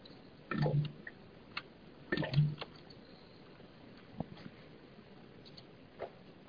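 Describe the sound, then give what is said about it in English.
Hot water poured onto a tea bag in two short, soft splashy bursts, followed by a few faint clinks and taps of a mug, otherwise quiet, with no talking. “And I'll be there in about 30 seconds because I'm getting some hot water on my tea bag here.”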